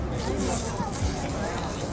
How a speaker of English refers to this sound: Caitlin's telling me that I eat really audibly.